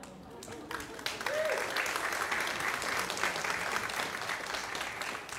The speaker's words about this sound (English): You got to clap, man.